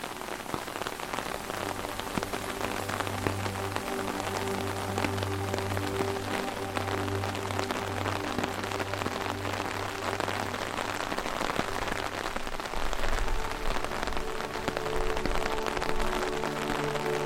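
Steady rain pattering on a hard surface on a rainy night, a dense continuous hiss of drops with a low hum underneath, holding an even level throughout with no voices.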